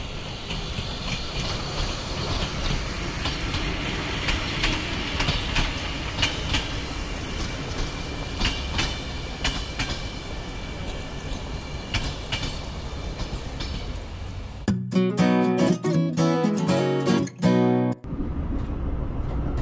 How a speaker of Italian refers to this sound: Hai sentito? Hanno appena avvisato che il treno è in arrivo. Prepariamoci!